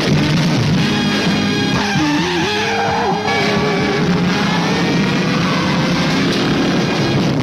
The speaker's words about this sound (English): There goes the Challenger, being chased by the blue meanies on wheels, the vicious traffic squad cars after our lone driver, the super driver of the Golden West. The police numbers are getting closer to our sole hero in his sole mobile.